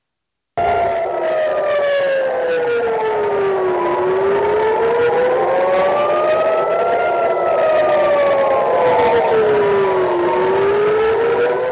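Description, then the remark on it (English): Air raid sirens wail continuously over Tel Aviv, Israel, as a barrage of Iranian missiles hits, their pitch slowly rising and falling in long overlapping sweeps, loud and sustained with a faint rumble of traffic beneath and no voices. “Israel is being pounded by Iran, sirens sounding over Tel Aviv as a barrage of missiles hit the nation.”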